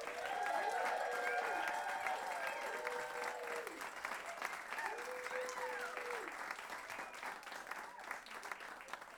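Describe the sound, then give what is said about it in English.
An audience applauds steadily for about nine seconds while a big band's members are introduced, a dense clatter of many hands that stays fairly loud, with a few sliding, whistle-like pitched tones rising and falling over it early on. “I keep telling her not to get more applause than me.”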